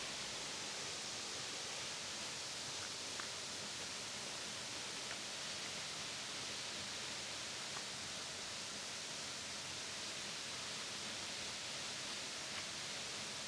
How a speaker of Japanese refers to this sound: 何か聞こえてくるんじゃない？そう、あれはルフォート滝。エルフの森の奥地にある直瀑の滝だよ。